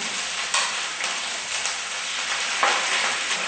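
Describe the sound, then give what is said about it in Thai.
Steady crackling sizzle of curry paste stir-frying in coconut milk until the oil separates, a dense hiss with a few sharper pops and scraping stirs, no voices. “ราจะผัดให้จนแตกมันเลยนะคะ”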